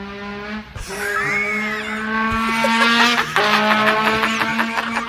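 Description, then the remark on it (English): A 1919 trombone scooter in Europe: its engine drones steadily with a buzzy, harmonic tone, rising slightly in pitch partway through, with a brief sliding whistle-like note over it; no one speaks. “Trombone scooter on YouTube. 1919.”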